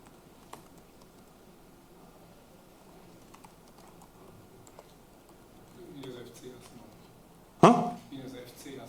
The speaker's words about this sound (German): Nee, ich glaube, ich kann hier schlecht tippen.